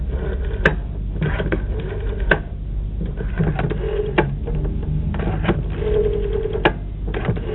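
telephone being dialed

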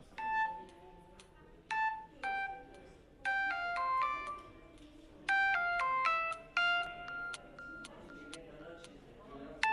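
phone ringtone ringing unanswered

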